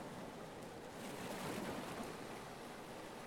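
A steady, hissing wash of ocean surf on a beach rolls in alone, swelling briefly in the middle as a wave breaks, then settling back to a constant roar. Fairly soft.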